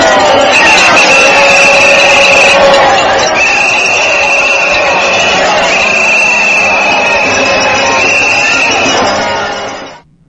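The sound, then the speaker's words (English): A large rally crowd reacting to a speaker's comments roars and cheers loudly and continuously, with shrill sustained whistles cutting through the din, before the noise cuts off abruptly at the end. “there were a few comments from Sarah Palin, and then some of the crowd reaction there”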